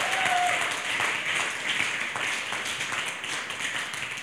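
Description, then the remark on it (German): An audience applauds three performers on a stage, dense overlapping claps filling the whole stretch at a fairly loud, even level, with a faint whistle or cheer near the start. “Hey, ich würde sagen, gebt mal unseren drei Jungs hier vorne auf der Bühne einfach mal einen fetten Applaus, oder?”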